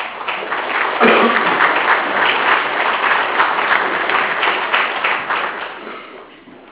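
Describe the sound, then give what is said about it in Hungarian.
An audience applauds a local representative in thanks for town building projects, a dense wash of many hands clapping at an even loudness for several seconds before it gradually thins and fades out. “én ezt itt szeretném egész városunk költözővel megköszönni képviselőnek, és azt hiszem, hogy ezért ő egy tapsot megérdemel.”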